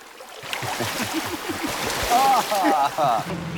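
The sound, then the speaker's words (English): Two men swimming naked in a large stone fountain by day splash each other, with a steady wash of churning water and wordless voices, laughing or calling out over the noise. “They splash each other.”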